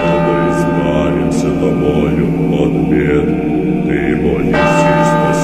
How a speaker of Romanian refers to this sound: Clopotele băteau și mie mi se părea că de înmormântare.